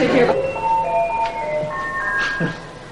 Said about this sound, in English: Outside, Griffin rings the doorbell.